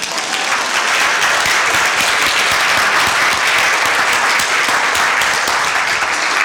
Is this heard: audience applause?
yes